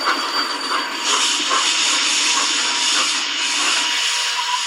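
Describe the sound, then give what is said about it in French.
A train brakes hard to a halt after someone pulled the emergency alarm signal: a loud, steady rush of hissing and grinding noise with faint high squealing tones running through it, continuous for several seconds, no voices. “Quelqu'un a tiré le signal d'alarme.”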